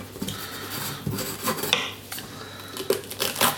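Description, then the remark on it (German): A knife slices through bell pepper in several crisp, irregular cuts, each ending in a sharp tap on the board, over a low steady hum with no talking. “Zack, ein Schnitt so, einer so.”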